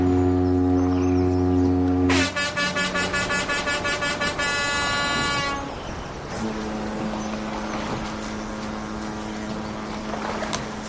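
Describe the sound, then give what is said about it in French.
Boat foghorns at a quay blare loudly: a long, deep sustained blast, then a burst of rapid brassy toots, followed by another steady low horn over a rumbling engine background. “Au son des cornes de brume des bateaux qui me souhaitent bon voyage, je me dégage du quai.”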